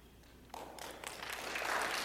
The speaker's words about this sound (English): Well, I didn't need an applause.